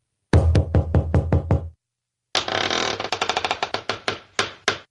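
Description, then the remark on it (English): Six loud, evenly spaced knocks on a wooden secret door, a short silence, then a flurry of rapid, clattering knocks and thumps. Clear, with no voices. “But let's open up secret door number two.”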